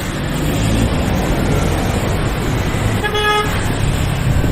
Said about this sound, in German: Die Straßen in der Stadt sind laut. Ständig hupt jemand.